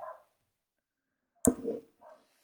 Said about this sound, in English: Sounds like your dog does. My dog disagrees with everything. he's a Westie, so he's genetically Scottish, and he's from the northeast of England.